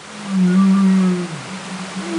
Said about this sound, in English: the whales change their calls, kind of the way we talk at a loud party